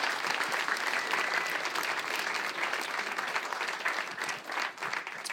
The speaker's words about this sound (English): Yeah, give him a big round of applause for that.